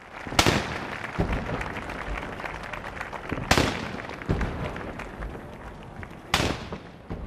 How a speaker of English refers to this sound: Cannons were fired.